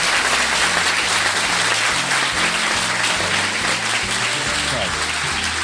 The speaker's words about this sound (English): So thank you very much. Can we give a round of applause to Robert Bathurst?